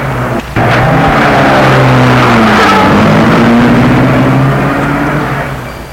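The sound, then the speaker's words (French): A car engine roars loudly, its pitch climbing as it accelerates, then the sound fades slightly as the vehicle pulls away. No one speaks. “Et lorsque la voiture dépasse Julien,”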